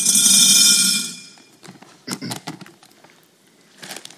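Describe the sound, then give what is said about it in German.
A dense, loud rush of small hard Smarties candies, poured from a torn-open bag, clattering down into a glass jar for about a second, followed by scattered lighter clicks and ticks as the candy settles. No talking. “Dann in das Glas schütten.”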